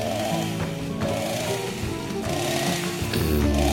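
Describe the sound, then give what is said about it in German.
A chainsaw runs steadily and loudly, its engine droning with a buzzing, slightly wavering pitch and a small rev-up near the end. No one speaks. “Barbecue. Kettensägen.”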